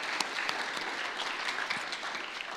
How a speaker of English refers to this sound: And so I just want to give a round of applause and thanks to all those who participated and were part.